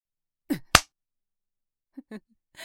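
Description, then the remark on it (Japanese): A single sharp, loud slap lands on a man's cheek, struck with a penis, crisp and percussive, with a brief breathy sound just before it and a few faint vocal noises and a soft rustle afterward. “チンポでビンタされて驚いてるのか。”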